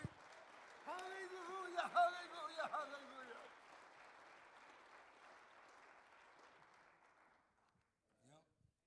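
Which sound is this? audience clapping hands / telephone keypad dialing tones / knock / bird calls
audience clapping hands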